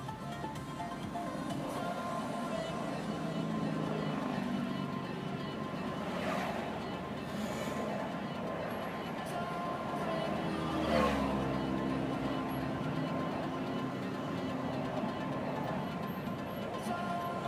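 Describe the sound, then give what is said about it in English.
Steady low road rumble and rushing wind buffeting throughout, from riding in a moving car in traffic with the top open and the back windows rolled down in warm weather, with a couple of brief louder gusts swelling and fading. “Open the top. Roll down the back windows too.”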